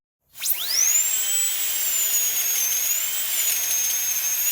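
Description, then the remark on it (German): A dentist's drill spins up with a rising whine and holds a steady high-pitched whir, wavering slightly in pitch, loud, with no voices. “Ein Geräusch, das ihr bestimmt schon mal gehört habt, wenn ihr gern zum Zahnarzt geht.”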